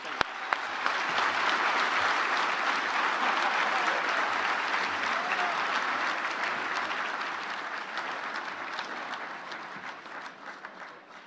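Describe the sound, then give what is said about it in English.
A crowd bursts into sustained, dense applause for Chris Kane, outgoing G&O Inc. chair, holding steady for several seconds before gradually thinning and tapering off toward the end. “Can I have a big round of applause for Chris Kane, outgoing G&O Inc. chair?”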